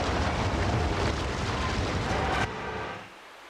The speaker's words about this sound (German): Donnerndes Getöse von allen Seiten. Die Goldmine stürzt in sich zusammen. Die Decke zerbirst. Und in gewaltigen Fluten strömen schäumende Wassermassen in die Höhle.